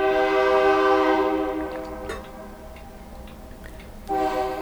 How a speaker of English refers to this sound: I don't know if you guys can hear the train or not. Yeah, you can hear it, because I can see it moving the meter.